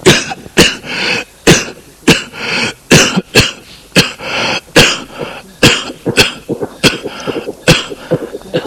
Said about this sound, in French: Il se penche pour lire. Une poussière le fait tousser.